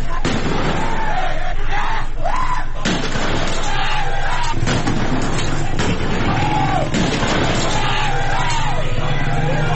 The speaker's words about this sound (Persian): در قهدریجان در استان اصفهان بنابر ویدیوهای موجود در جریان تجمع این شهر، صدای تیراندازی و انفجار به گوش می‌رسد.